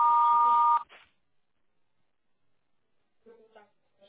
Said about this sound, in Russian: Если вы хотите оставить ему голосовое сообщение, пожалуйста, говорите после звукового сигнала.